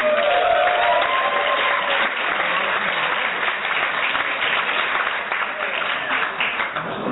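Steady, dense audience applause fills the whole stretch, a loud wash of many hands clapping at once with a few faint cheers, gradually easing slightly toward the end.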